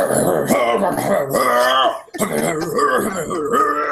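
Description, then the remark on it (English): A voice imitates death metal growling: a loud, continuous guttural rasp with wavering pitch, broken by one brief breath near the middle before the harsh growl resumes. “That sounds nothing like death metal.”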